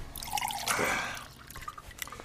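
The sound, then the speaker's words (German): Coffee pours briefly into a cup, a short splashy swell of liquid that quickly fades into a few soft drips and trickles. “Also, ich gieße mir jetzt erstmal einen Kaffee ein.”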